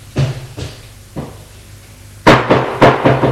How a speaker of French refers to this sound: Le concierge a frappé à la porte.